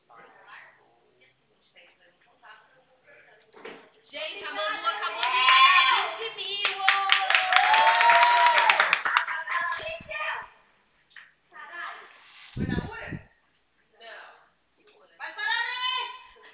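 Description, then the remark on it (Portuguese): A group of office staff bursts into loud shouting and rapid, sustained clapping to celebrate a paid contract, lasting several seconds before settling, then brief cheers and voices rise again. “Quando paga um contrato, a gente grita para comemorar, tá vendo? Tá escutando?”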